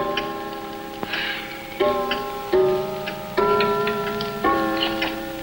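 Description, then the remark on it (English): A clock chimes a quarter to midnight: a short run of ringing, bell-like notes struck one after another at a steady pace, each tone lingering and overlapping the next. The chime is clear. “jumps when a clock chimes a quarter to midnight.”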